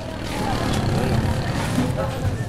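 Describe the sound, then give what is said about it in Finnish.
Moped taxis rattle along a street in the Kalo-Okan slum area of Manila on a Sunday, a continuous, low, buzzing engine drone that holds steady throughout, with faint indistinct voices mixed into the background. “Kalo-Okanin köyhälistöalueen sunnuntairauhaan kuuluu mopotaksien räminä.”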